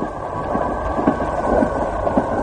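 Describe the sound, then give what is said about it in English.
Heavy rain pours down at night in a steady, dense roar, loud and continuous with a deep rumbling undertone and no voices. “Man, look at that rain come down.”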